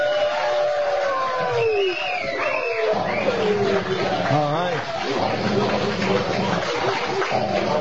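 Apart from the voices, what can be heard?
dogs barking and yelping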